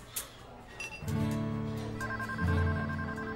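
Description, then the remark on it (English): A phone rings with a steady electronic tone that starts after a short quiet pause and holds for a couple of seconds, fairly loud, with no one talking: a scheduled call from an undercover team to an undercover officer. “It isn't until the undercover officer takes a scheduled phone call from an undercover team that the jovial spirit of their vacation fades.”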